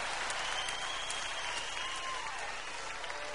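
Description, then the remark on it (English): An audience clapping steadily, a dense, even patter of many hands that holds at the same moderate loudness throughout, with no voices rising above it. “And the only reason y'all clap is because your woman's sitting next to you right now when I ask you.”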